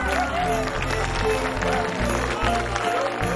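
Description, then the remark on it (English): A theatre audience applauds the cast steadily as the actors bow, a dense, even wash of clapping that carries on throughout over low, sustained music underneath. “The audience applauds the cast.”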